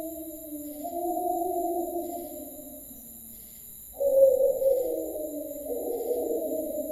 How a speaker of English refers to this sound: What the hell was that? Our friend the wolf again.